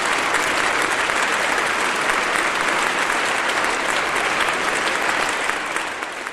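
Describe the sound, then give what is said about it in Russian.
Steady, dense applause and laughter from a large crowd of courtiers, a continuous rush of many hands clapping at once that holds evenly loud for several seconds and begins to thin slightly at the end. “Дальнейшие слова потонули в хохоте и аплодисментах.”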